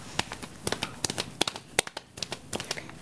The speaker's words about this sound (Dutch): Op dat moment klinkt hoefgelop. Het is Wervelwind, Snorro's ADHD-paard.